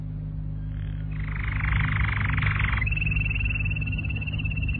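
A small bird sings a buzzy, rapid trill, then holds a thin, steady high whistle, over a low constant hum.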